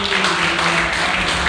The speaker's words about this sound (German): Vielen Dank, ein Applaus an alle.